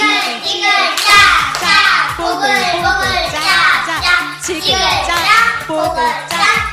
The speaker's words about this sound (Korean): 훌륭하십니다. 냄비 박수 마지막으로 끓여볼게요. 냄비 박수 시작.